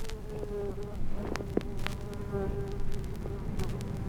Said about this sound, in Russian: Ой. Оса.